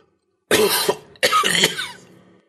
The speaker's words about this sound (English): From the window, Megan looked back at the obelisk, wincing at how painful the last cough had sounded. It occurred to her how cramped it must be for him in there, trapped in the dark with no fresh air.